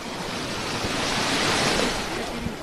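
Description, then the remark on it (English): Surf washes steadily onto a beach, a broad hissing roar that swells to a peak midway and eases off again, with a light breath of wind across the microphone and no voices. “Unfortunately, you have to go outside the towns not to have to pay for the beach, says this woman.”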